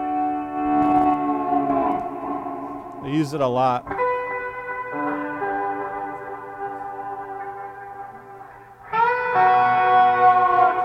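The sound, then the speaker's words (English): An electric guitar rings out in sustained chords soaked in a tempo-synced reverb effect that wash and hang in the air, briefly interrupted by a short spoken phrase, then swelling louder with a bright new chord near the end. “I used it like once every month, but it's just a certain tempo and a like certain way that the reverb sounds that.”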